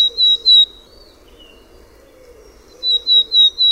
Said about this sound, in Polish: A teraz znów piosenka Czarnogłówki.